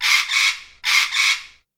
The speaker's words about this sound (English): So, what's that sound? A parrot! A parrot.